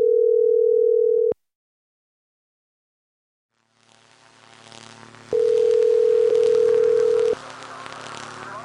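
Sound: phone call ringing tone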